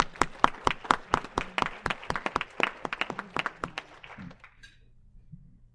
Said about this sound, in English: And then, again, Psalm 47, verse 1, clap your hands, all people, shout to God, with the loud songs of joy. Let's all clap our hands.